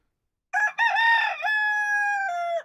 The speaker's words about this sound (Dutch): Een haan.